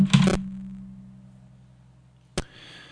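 A phone is thrown dramatically, hitting a surface with a hard clattering impact, followed by a low lingering hum, then a second sharp knock about two seconds later. No one speaks.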